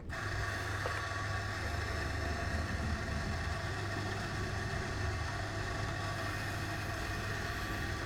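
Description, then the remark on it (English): A coffee grinder grinds Peruvian coffee beans for an espresso machine, producing a continuous, bass-heavy motor rumble with a gritty grinding texture. It is fairly loud, with no voices. “So there's quite a lot of bass in the grind there. It's more of a dull rumble.”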